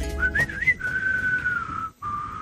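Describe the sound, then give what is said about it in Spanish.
A person whistles the theme of the western film A Fistful of Dollars (Por un puñado de dólares), a clear sustained note sliding between pitches before a brief pause, with a soft breathy noise of wind underneath. “Dejarme silbar por un puñado de dólares o bueno, fui el malo.”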